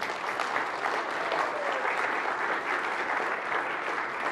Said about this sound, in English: Give her an applause.